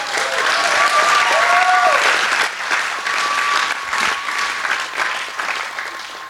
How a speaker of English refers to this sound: Give them a massive, massive, massive, massive round of applause.